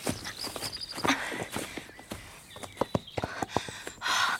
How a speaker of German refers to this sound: Das kommt von da unten. Oh, Bibi, das sind die Ponys.